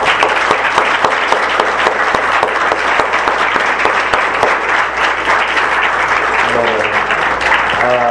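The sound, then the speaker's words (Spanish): A church audience claps loudly and steadily for the parents, a dense crackle of many hands that fills the church for several seconds, with a faint voice or tone rising briefly near the end. “Así es que le pido a la iglesia que se una conmigo y le demos un fuerte aplauso a los padres.”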